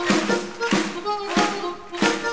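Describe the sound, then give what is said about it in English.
Steady hand claps from an audience land on the beat, roughly every half second, over sustained music with a held tone underneath; the claps sound crisp. “Yeah, clap your hands.”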